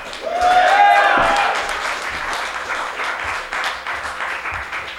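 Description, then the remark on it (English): An audience at a live event bursts into steady applause for a band, many hands clapping at once in a dense wash that holds loud for the full stretch, with cheering voices rising over it early on. “Big round of applause for ….”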